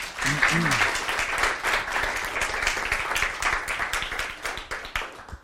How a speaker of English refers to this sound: The title of his talk is Manufacturing Authenticity, the Idea of Mexican Food in Diana Kennedy and Rick Bayless. So let's give him a big applause.